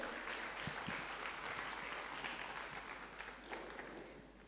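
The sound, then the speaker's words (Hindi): An audience applauds two performers steadily after their performance, a dense wash of many hands clapping at once, loud and sustained throughout before easing slightly toward the end. “हमारी दोनों कलाकारों को जोरदार तालियों से सम्मानित करें।”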